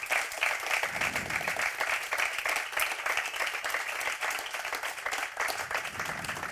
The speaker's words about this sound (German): Enno Maaßen, ganz herzlichen Dank und einen großen Applaus für den St. Galler Cheftrainer. Dankeschön.